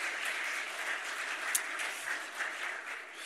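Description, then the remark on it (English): A church audience applauds steadily for a few seconds in thanks for everyone who helps with children's church, a dense wash of many hands clapping at an even, moderate loudness with no voices over it, easing slightly toward the end. “So let's give a round of applause for everyone who helps there.”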